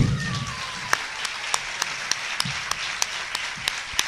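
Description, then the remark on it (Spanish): An audience applauds steadily to welcome a band member, a dense wash of clapping with sharp, evenly spaced claps standing out in a regular beat, continuing for several seconds without anyone speaking. “Y sin más preámbulo, vamos a darle la bienvenida, sobre todo con un fuerte aplauso, a Pedro Clemente Gil.”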